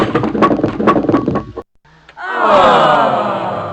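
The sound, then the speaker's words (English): A loud clattering crash of bowling pins as a first ball in frame 8 knocks down 8 pins, with a burst of wooden knocks, then a short pause and a swelling, rumbling tonal sound that slowly fades. “8 pins were knocked down with your first ball.”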